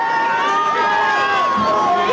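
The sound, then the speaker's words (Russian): A loud crowd cheers and shouts continuously as TV host Al Roker comes out to the public again from the studio, many overlapping voices blending into one sustained roar that holds steady from start to finish. “Слышите? Вот он снова выходит к публике.”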